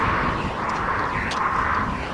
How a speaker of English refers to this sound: You don't want to hear those cars, do you? I don't think so.